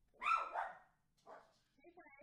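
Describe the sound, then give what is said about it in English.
A dog barks in a quick double burst, then gives a single quieter bark after a short pause, followed by some faint higher-pitched sounds at the end. “Hey, speaking of dogs.”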